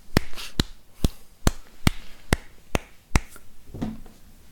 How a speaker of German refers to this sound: Ich freue mich schon auf unseren nächsten Musikexperten, der sich meldet und sagt, dass das ein 17/42 Takt war oder so, weil du dich minimal verklatscht hast oder so. Das für die Laien da draußen, das war ein sogenannter Viervierteltakt.